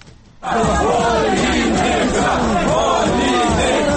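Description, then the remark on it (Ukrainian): A loud crowd of protesters shouts slogans together while carrying a rubbish bin into the Vinnytsia regional council building on Saturday, demanding the resignation of regional head Anatoliy Oliynyk, many voices overlapping in a dense, continuous roar after a brief quiet start. “З цими вигуками до приміщення Вінницької облради у суботу заносили сміттєвий бак.”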